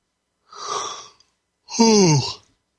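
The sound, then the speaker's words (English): A breathy yawn: a hissing inhale, a brief pause, then a longer voiced exhale that slides downward in pitch before fading out. No talking. “You guys are taking a lot in, otherwise I wouldn't be yawning so much.”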